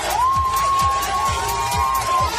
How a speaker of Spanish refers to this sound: Gente aplaudiendo a los militares en las calles. Allí, como decimos, militares del ejército del país han dado un golpe de Estado.